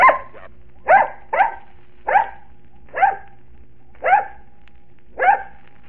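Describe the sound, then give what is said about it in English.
A dog named Bozo, on a stage, barks seven times to give the number seven that a gentleman is thinking of, in a slow, uneven sequence, each bark short, sharp and fairly loud, with pauses of roughly a second between them and no talking. “Yes, but even I might be able to bark the right answer once.”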